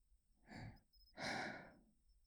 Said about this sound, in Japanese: こんな風に耳に吐息のかかるような、いたずらはこの辺でやめておきましょうか。